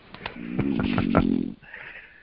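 A single rattling, buzzy snore from a man, lasting about a second and fairly close, fading into a soft breathy hiss.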